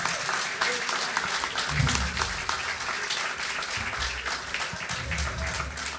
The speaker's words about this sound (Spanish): Fuerte aplauso